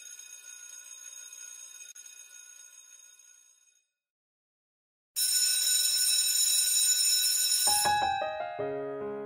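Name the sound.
bell ringing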